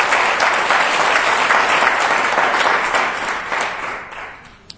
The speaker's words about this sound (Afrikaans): Geef vir die Here 'n groot hande klap.